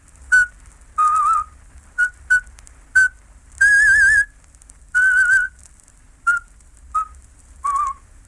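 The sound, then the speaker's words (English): A Slavic presenter whistles a traditional folk song alone at the start of a radio talk, in short, clear phrases, some notes quick and clipped, others held longer with a slight wavering, separated by brief pauses; no one speaks. “The Slavic presenter started his talk by whistling a traditional folk song, whose refrain went, "Out with them, out with them."”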